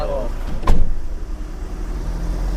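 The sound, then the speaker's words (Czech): A fire truck door slams shut with a single solid thud, while the heavy fire truck engine rumbles steadily, idling and then pulling away as volunteer firefighters from Stod leave for Česká Ves in the Jeseník region, Czech Republic, with a faint voice briefly at the start. “Zavřeli se dveře a dobrovolní hasiči ze Stoda výjíždí směr Jesenicko, směr Česká Ves.”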